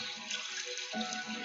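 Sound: running water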